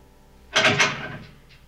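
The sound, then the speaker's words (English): The metal bars of a cell door are slammed by hand by Spock in annoyance, a sharp clattering burst of two or three quick impacts that rings and rattles briefly before fading, followed by a faint tap, with no voices. “Spock slams the bars in annoyance.”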